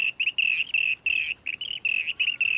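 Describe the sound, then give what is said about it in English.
A rainbow bee-eater gives a rapid series of bright, rolling trilled calls, short bursts repeating almost without pause, clear with no voices. “And there's another one. It's a rainbow bee-eater.”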